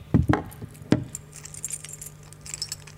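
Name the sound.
bunch of keys jangling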